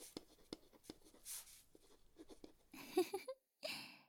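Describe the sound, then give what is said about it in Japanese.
A pen scratches across paper as a new customer chart is written by hand at a treatment shop, with a few separate taps and short strokes, then a denser burst of quick scribbling toward the end. No one speaks. “紙に書くってちょっとレトロな感じですよね。”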